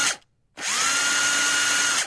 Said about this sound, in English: That sounds like a drill, like an impact drill.